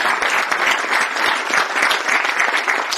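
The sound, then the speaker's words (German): Steady audience applause for three presenters fills the whole stretch: many hands clapping at once in a dense, even patter that stays loud throughout, with no voices standing out above it. “Einen kräftigen Applaus für die drei.”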